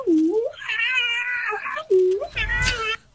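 A cat meows loudly, two long drawn-out meows in a row, the second rising into a strained, wailing cry.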